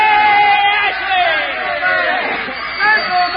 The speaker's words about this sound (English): Let's give Mr. Ashley a cheer. Yay!